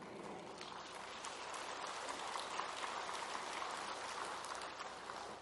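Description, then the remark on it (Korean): A crowd applauds steadily, a dense wash of many hands clapping at once, sustained and fairly even for several seconds with no voices on top. “박수를 치려면 신나게 치세요.”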